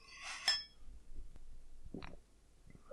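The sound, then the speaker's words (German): A single bright clink of Schwarzbier beer glasses in a toast rings out near the start, quickly fading, followed by soft handling noises and a faint short sound later. “Gut, dann sage ich mal Prost. Prösterchen. Prost.”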